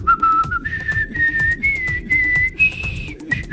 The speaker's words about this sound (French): Et oui, on sifflera la Marseillaise qui est strictement interdite, mais c'est rien que pour le bonheur et pour le plaisir, et pour notre côté un petit peu tendancieux.